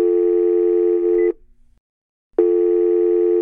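A telephone ringback tone of an outgoing call to Frontex's fundamental rights officer plays alone: a steady, buzzy electronic ring lasting just over a second, a second of silence, then the ring starts again, loud.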